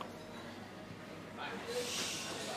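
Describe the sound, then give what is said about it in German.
Breathy sniffing as someone smells liquor from a bottle dated 1689, a couple of soft inhalations rising to a longer, louder sniff near the end, over quiet background noise. “Ja, riech mal. Dann riech mal.”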